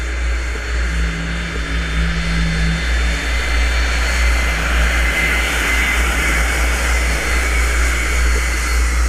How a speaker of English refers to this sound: I'm flying up with another Steve Gale, and he's the one with the little jet fighter plane, the one that we've heard before.